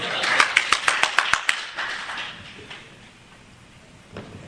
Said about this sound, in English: This is when you applaud.